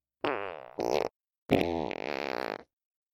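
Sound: fart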